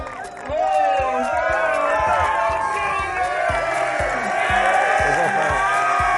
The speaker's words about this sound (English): So can you imagine what the kids from the Van Cortlandt Titans thought when they got a chance to spend time with Odell Beckham Jr.? Take a look. And let's clap it up for